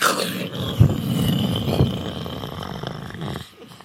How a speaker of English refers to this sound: Lightning, it makes a flash. It's very bright when it happens. And thunder is the sound that happens, like that.